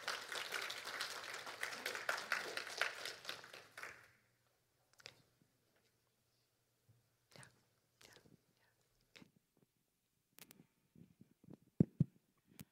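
An audience breaks into a dense burst of applause welcoming a speaker up to give a testimony, lasting about four seconds, then it stops abruptly, leaving quiet broken by scattered faint taps and bumps.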